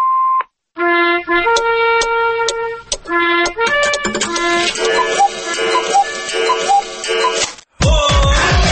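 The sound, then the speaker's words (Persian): A short, steady mid-pitched electronic beep sounds alone, then gives way to a lively run of bright, synthesized melodic tones and jingle-like music. “پخش بوق تفضل.”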